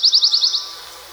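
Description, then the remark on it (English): A pine warbler sings a quick, even trill of about six or seven identical high notes on one pitch, clear, fading out after half a second with no voices. “That very monotone trill is the pine warbler.”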